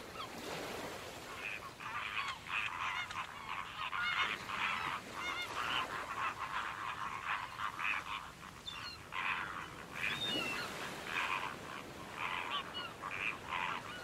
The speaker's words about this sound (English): Wow, look at them. We have a lot of guests. I'm talking about the migrating birds.